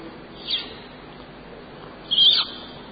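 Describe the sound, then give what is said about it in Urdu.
Two short, high-pitched whistles: a brief one first, then a slightly longer, louder one a moment later, with only a faint steady hiss between them. “یہ سیٹیاں بجانے والے.”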